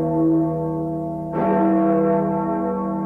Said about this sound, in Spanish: Se escucha el tintineo de las campanas de la vieja Torre de San Juan que interrumpe el silencio de los pastusos que aún duermen.